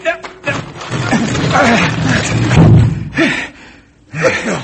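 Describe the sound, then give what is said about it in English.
A heavy, perfectly balanced rock grinds and swings open like a trap door over a tunnel entrance with a dull, low thud, mixed with straining grunts and voices of people heaving it over a few seconds of rumbling movement. “That rock swung open just exactly like a trap door.”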